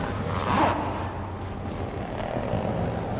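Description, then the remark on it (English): A helicopter's engine and rotors drone steadily and fairly loudly throughout, a continuous mechanical roar with no voices. “Shocked, Cameron heads back to the helicopter as the two brawny men move toward the bodies.”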